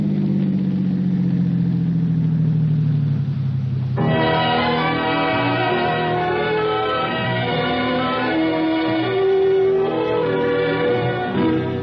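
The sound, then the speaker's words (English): A car engine hums steadily, its low drone slowing and settling into an idle as the car stops, with a dense, continuous layer of engine sound carrying on to the end. “Oh, stop here, Kit.”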